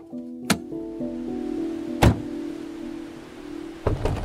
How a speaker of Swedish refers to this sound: De lyfter ner kajakerna från taket på bilen.